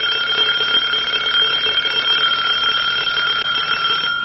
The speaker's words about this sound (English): turn that damned alarm off. Yes, sir.